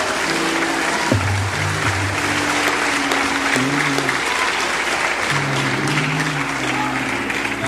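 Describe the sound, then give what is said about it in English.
A church audience claps steadily and loudly throughout in praise of God, dense overlapping applause, with a sustained organ-like tone and faint voices underneath. “Let's give God a hand clap of praise if we would.”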